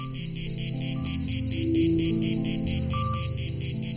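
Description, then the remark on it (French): A grey cicada (Cicada orni), an insect 3 to 4 cm long, sings loud in a steady pulsing rhythm, about three buzzy chirps per second, continuing throughout over a soft low tonal hum, with no talking. “En France, il existe une vingtaine d'espèces de cigales, mais dans le sud du pays, celle que l'on connaît le plus, c'est elle, la cicada orni, pour utiliser son nom latin, appelée aussi cigale grise.”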